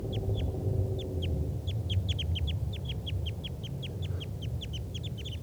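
birds calling in trees

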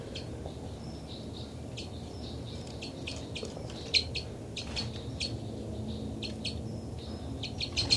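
bird flight calls

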